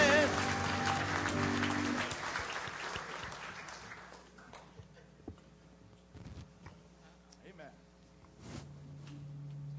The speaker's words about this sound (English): Give God a great big old hand clap of praise. Go ahead. Yeah.